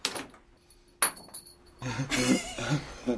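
A small metal part clinks sharply as it hits the floor, lands again a second later, then clatters and rattles for a moment nearby.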